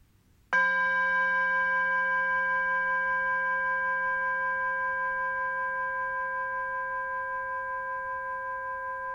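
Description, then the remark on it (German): A singing bowl is struck once and rings out with a clear, sustained metallic tone that hums on steadily with a slight shimmer, fading only slightly over several seconds, with no one speaking. “Und dann hörst du jetzt den Gong, dieser Klangschale, was das Zeichen ist, dich nach innen zu wenden.”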